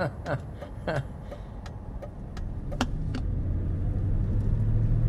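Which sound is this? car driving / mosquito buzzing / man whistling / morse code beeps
car driving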